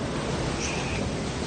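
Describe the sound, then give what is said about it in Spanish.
A loud, continuous roar of heavy surf and churning seawater from storm waves up to 8 metres high breaking over sea walls onto seafront promenades in the north of the Iberian Peninsula, steady and dense throughout with no distinct individual crash standing out, and no voices. “Seguro que has visto las imágenes, esas olas de hasta 8 metros, que saltaban más allá de los diques y que se han adentrado en los paseos marítimos en el norte de la península.”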